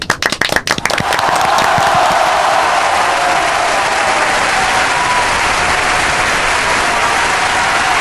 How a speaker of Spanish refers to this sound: Hoy queremos celebrar el Día del Padre. Por favor, tripulantes, un aplauso para los papás que nos están escuchando.